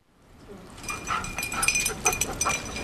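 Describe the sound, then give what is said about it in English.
An 8-year-old Belgian Malinois detection dog, trained to identify about 19 different scents, makes a string of high, thin whimpers and snuffling sounds that grow louder over a few seconds as it finds wolverine scat during a demonstration at the Flathead National Forest Office, with no one talking. “an 8-year-old Belgian Malinois trained to identify about 19 different scents.”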